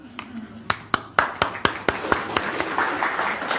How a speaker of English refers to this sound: Well, we need to applaud our volunteers, or we'll start not getting any volunteers, right?